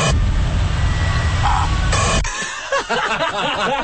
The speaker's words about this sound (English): Can we hear the ant fart again? If you didn't hear it the first time, it sounds probably more like a small burp. It's static, and then it's the noise right at the end. If everyone very quiet, let's hear it again.